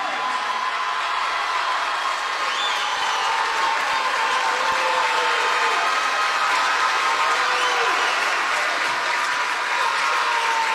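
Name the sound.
standing ovation applause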